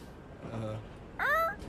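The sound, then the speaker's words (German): On a train, a person imitates a barking seal with two short voiced calls: a low, droning honk followed by a louder, higher, wavering bark, both fairly loud. “Hier ist eine Robbe im Zug.”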